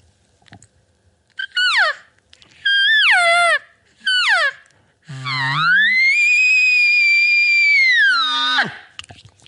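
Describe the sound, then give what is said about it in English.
An elk bugle blown on a double-reed call: three short squealing notes that slide downward, then a long piercing high whistle that climbs from a low grunt, holds steady, and drops off at the end. “It's going to be a little bit hard to control as an elk call, but I could make it work, especially for a bugle.”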